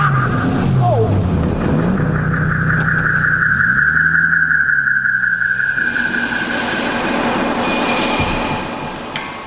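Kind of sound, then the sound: vehicle, car driving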